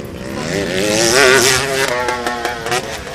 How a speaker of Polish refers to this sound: Gdy mówi się o wyścigach w Poznaniu i okolice myśli się głównie o torze Poznań, ale w Rumianku pod Tarnowem Podgórnym są warunki do motocyklowej rywalizacji w Super Enduro, o co dba prezes Motoklubu Wielkopolski